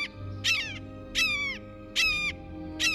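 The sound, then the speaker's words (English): A blue jay mimicking a red-shouldered hawk gives four loud, harsh, downslurred screams, each about half a second long, spaced evenly with short gaps between them. No voices are heard. “Though they don't have the same reputation for mimicry as mockingbirds and thrashers, blue jays have an unnerving habit of impersonating raptors, especially red-shouldered hawks.”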